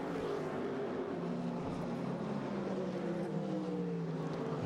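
Several race car engines drone steadily, their overlapping whines shifting in pitch as the cars pass around a circuit, the race leaders working through lapped traffic and the GTD Pro leaders, with no voices present.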